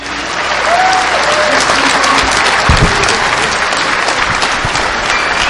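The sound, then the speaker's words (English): A crowd at DEF CON applauds the Ghetto Hackers, organisers of the Capture the Flag contest, steadily, dense clapping filling the whole stretch at a loud, even level, with a few faint whistles or cheers rising above the patter. “So let's give those guys a warm round of applause.”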